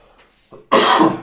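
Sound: cough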